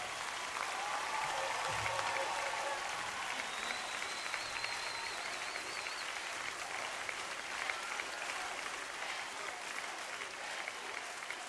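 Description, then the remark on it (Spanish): Sustained audience applause fills the whole stretch, a dense, steady wash of clapping with a faint crowd murmur and a few high whistles rising over it, given as praise to the Lord. “Tu mejor porra, tu mejor gritería, tu mejor barra, tu mejor grito, tu mejor aplauso al único artista, al único artista.”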